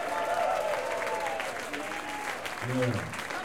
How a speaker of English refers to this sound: He's a good guy from Florida. Let's give him a hand. Give him happy birthday.